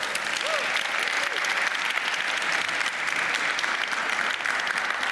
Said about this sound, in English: So we start with table 8. And a big round of applause every time.